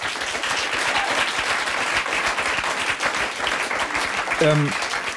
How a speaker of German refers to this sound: Ich genieße das sehr, dass man hier unendlich Applaus bekommt. Ja, das mache ich extra.